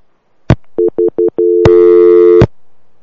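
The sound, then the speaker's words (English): A caller's phone line cuts off: a click, then four quick mid-pitched beeps, then a steady tone that turns into a louder, buzzy drone before a final click. Nobody speaks. “Did we lose Milkman?”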